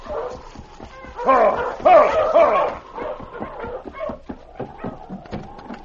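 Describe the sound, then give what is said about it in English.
A pack of sled dogs barks and yips excitedly, with a loud burst of overlapping high yelps early on that trails off into a steady run of shorter, scattered barks. “There's that devil in the lead. It is King. Rush! Push up! Pull it up!”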